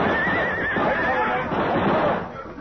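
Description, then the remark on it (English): Horses whinny shrilly with wavering, high cries in the first second as they go down under high-powered rifle fire on a canyon floor, set against a loud, dense rumble of commotion that continues to the end. “Our horses went down, and the 6 of us were trapped in the canyon floor.”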